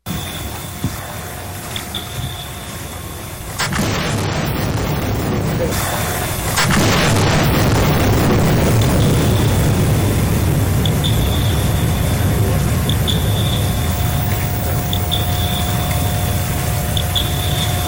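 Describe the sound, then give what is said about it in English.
Two heavy, low underwater air gun blasts boom out and leave a long rumbling wash, while echo sounders keep up a high, thin series of repeating pings throughout. “Air gun and the echo sounders going off at the same time.”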